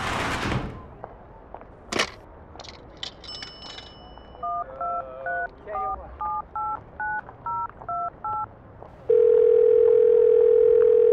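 A payphone call being placed from a phone booth outside the local supermarket in Elizabeth: a rattle and clunk of the handset, a few short metallic tones, then about ten evenly spaced touch-tone beeps, ending in a loud, steady telephone tone.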